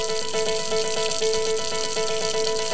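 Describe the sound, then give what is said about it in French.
Water runs steadily from a tap for the whole stretch, a continuous hiss with a faint ringing, pipe-like hum woven through it. No one speaks. “Le robinet.”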